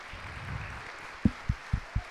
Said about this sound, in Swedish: Kan inte de få ställa sig upp? Kan vi inte ge dem en applåd? Kan inte det göra ni så?